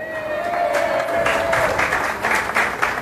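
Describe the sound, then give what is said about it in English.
A lunchtime crowd applauds in a brewpub in Bennington, Vermont, a dense patter of many hands clapping at moderate volume that builds after a brief pause, with a faint steady tone fading out partway through. “There is a great crowd here today.”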